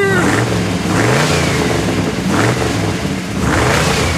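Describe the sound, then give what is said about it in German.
A VW car engine cranks and catches, then revs up and down several times in loud bursts with a rough, mid-pitched growl. No voices. “wenn ich mir das Auto mal so anhöre, hast du bei den Autohaus Zergarens, dein Autohändler mit Herz und Hände, auch mal nachgefragt, ob das Auto mal in der letzten Zeit ordentlich überholt wurde?”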